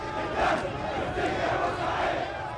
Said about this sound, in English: With our blood, with our soul, we'll sacrifice for you, Port Said, men yelled, waving their fists in the air outside the cemetery.